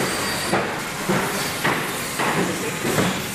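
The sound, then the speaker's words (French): Assembly line noise at the Lifan car factory in Chongqing, where car bodies move along the production line as workers weld and fit parts: a steady industrial hiss punctuated by regular metallic bursts about twice a second, like tools or machinery striking in a repeating cycle, with no voices. “Nous sommes dans l'usine automobile Lifan à Chongqing.”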